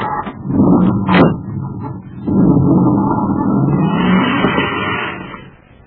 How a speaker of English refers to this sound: A few moments after Duncan and Savage roar away in the commander's surface car, another space patrol car rushes to the scene to find Buzz and Happy unconscious on the sidewalk.